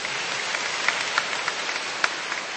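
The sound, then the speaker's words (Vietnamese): A Catholic church audience at Mass on a rainy day applauds one another with a steady, dense wash of clapping that holds at an even level throughout, a few sharper claps standing out, and no one speaking. “Và chúng ta tạ ơn Chúa và cảm ơn sự hiện diện của nhau để gia tăng lòng tin cho nhau bằng một tràng pháo tay nữa, thưa anh chị em.”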